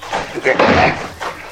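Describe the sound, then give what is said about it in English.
A door of a deserted-looking house or lodge is kicked in with one loud, heavy crash, a sharp impact followed by a brief rumbling thud as it bursts open. “when you kicked in that door, it didn't creak”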